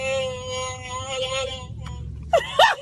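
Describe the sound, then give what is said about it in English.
A talking mask toy's electronic growl, worn by a woman in her car, drones as a long, wavering wail over a low car-engine rumble, then breaks off, followed by short, rising vocal bursts like laughter. “It was a mask. Yeah. Yeah. Right. Chewbacca mask.”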